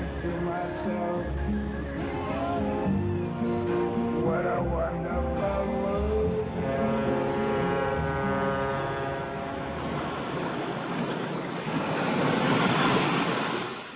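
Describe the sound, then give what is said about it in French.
Waves wash onto a beach on the coast of Saint Lucia in the Caribbean behind a steady low hum and murmuring voices, with a louder surge of surf breaking near the end. “Waves breaking on a beach on the coast of Saint Lucia.”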